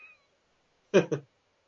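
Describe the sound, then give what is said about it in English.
A cat gives two quick meows back to back, the second briefly after the first, clear against a quiet background with only a faint tone just before. “Oh yeah, I thought that was like Ghost Cat.”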